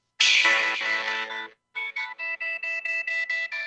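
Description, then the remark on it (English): A song played from a phone opens with a bright, buzzy synthesizer chord held for over a second, then breaks into a steady run of short, evenly pulsed synth notes with a sharp electronic tone. No voices. “So this is the very beginning of the song, and listen for the line with the synthesizer.”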